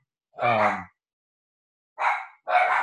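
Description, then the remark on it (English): A pet dog barks three times: one drawn-out, throaty bark, a pause, then two quick barks in a row. Moderately loud, with no talking. “Oh, once my dog started barking, it's difficult for my brain to function.”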